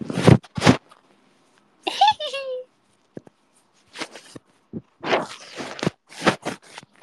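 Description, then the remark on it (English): Irregular bursts of rough, scraping rubs and muffled bumps as a cat presses its head against a phone, with a brief higher-pitched squeak in between and short pauses of near silence. “She's, like, I don't know if you can hear that, but she's, like, bumping her head against the phone.”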